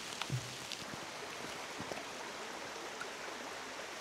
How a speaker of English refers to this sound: I'm out. Feeling of the rain on my skin right now is so nice, actually.